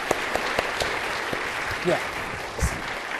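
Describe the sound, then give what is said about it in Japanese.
Sustained audience applause for a speaker after their part of a presentation, a dense wash of many hands clapping with a few sharper individual claps standing out, steady and moderately loud throughout, with a brief voice surfacing partway through. “皆さん拍手ありがとうございます。”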